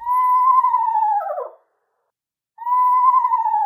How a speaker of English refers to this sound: Moving from the mudflats to your backyard, late August is a great time to listen for eastern screech owls in your neighborhood.